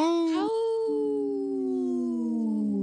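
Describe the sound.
A person imitates a wolf, letting out one long sustained howl that starts with a quick rising yelp, then holds a steady tone that slowly sags in pitch, loud, with no other sounds.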